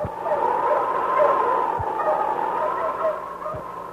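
dog barking

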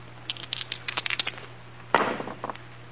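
dice being rolled

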